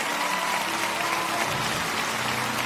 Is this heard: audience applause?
yes